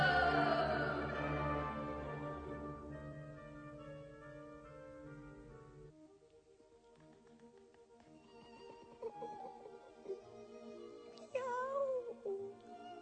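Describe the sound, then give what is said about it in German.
A cat meows a few times near the end, short wavering cries over a steady, droning musical background that fades in the middle; no one speaks. “Die Edamer Katze.”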